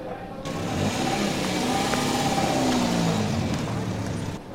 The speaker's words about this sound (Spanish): Él aceleró el motor unos instantes.